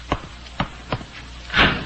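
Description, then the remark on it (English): A door bolt being worked: three sharp, evenly spaced clicks followed by a brief, louder scraping slide as the bolt shoots home, with no voices. “Why do you bolt the door?”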